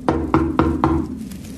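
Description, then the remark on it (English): Four firm knocks on a wooden door in quick, even succession, clear, followed by a short quiet resonance. “Then a knock on the door.”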